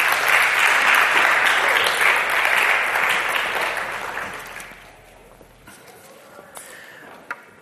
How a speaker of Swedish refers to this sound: Tack lovsångare. Tack ska ni. Jag tycker ni kan ge dem en applåd faktiskt.